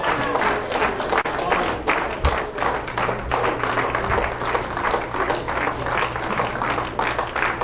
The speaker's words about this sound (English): I think any kind of musician or any kind of politician can get a better hand clap than that.